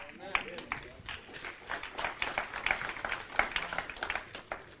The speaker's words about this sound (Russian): Аплодисменты были слабые. Ну ладно, расслабься, я понимаю. Я когда готовил тему, уже там между строк было написано, хлопать не будут, хлопать не будут. Будут очень плохо хлопать.